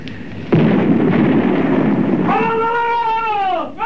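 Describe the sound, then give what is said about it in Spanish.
The cannon of the warship Huáscar fires one loud shot, a 300-pound projectile landing between the ships Esmeralda and Covadonga; its boom rolls into a long low rumble, then a high wavering whistle-like tone rises over the fading roar. “¡Ha disparado el Huáscar! ¡Proyectil de 300 libras! ¡Justo entre la Esmeralda y la Covadonga!”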